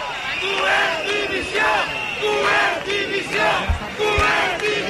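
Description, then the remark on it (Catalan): A large protest crowd outside on Avinguda Lluís Companys shouts and chants in sustained waves during a speech by a speaker, many voices rising and falling together in a loud, continuous roar with rhythmic surges, with a few low thumps underneath. “crec que estàs sentint crits de fora a fora.”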